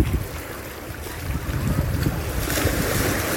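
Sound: sea waves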